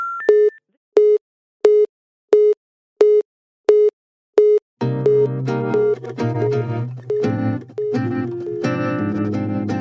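A telephone busy signal beeps in short, evenly spaced tones about twice a second for roughly five seconds, then full music with a steady beat comes in and carries on.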